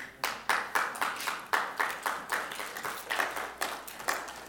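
Congregation applause in a church service, heard as steady, rhythmic clapping from a group of hands at moderate volume with no voices over it, each clap landing in a quick, even pulse, celebrating someone who received the Lord.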